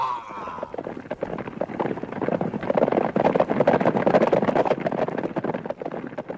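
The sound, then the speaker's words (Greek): Rapid, rumbling hoofbeats of a horse galloping, a dense run of pounding strikes that swells louder midway and carries on steadily with no voices. “Κάλπαζε ο γαίο μου άλογο.”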